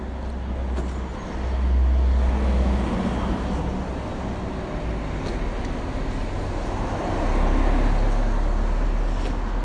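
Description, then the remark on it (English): Steady roar of road traffic, a constant stream of cars and heavier vehicles rumbling continuously down a narrow main road into town, with swells as each one passes, no voices. “Okay, I'm definitely getting into town because there's this constant stream of traffic down this narrow main road.”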